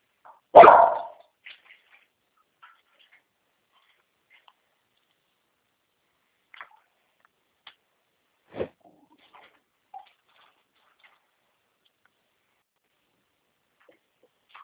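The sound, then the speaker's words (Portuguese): A dog lets out one loud bark at the start, followed by a few much fainter, scattered barks spread across an otherwise quiet stretch. “Dá um biscoitinho pra ela. Para de latir.”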